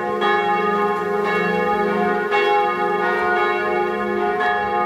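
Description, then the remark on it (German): Several church bells of the churches in Soest ring together in a dense, overlapping peal, their strikes blending into a continuous resonant clangor with a steady, sustained loudness and no voices. “Bevor der Stadtführer die vielen anderen Kirchen in Soest vorstellen kann, übernehmen ihre Glocken die Regie.”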